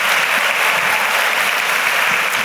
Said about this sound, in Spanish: a quien le pido que le demos un fuerte aplauso a Dios por su vida y su amor para con nosotros.